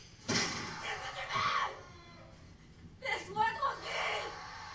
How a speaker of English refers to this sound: Dude, listen to that scream.